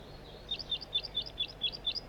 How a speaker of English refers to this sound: Way up in the top of a dead tree. It's possible that all these birds are juveniles. Flight song? Now it's on perch.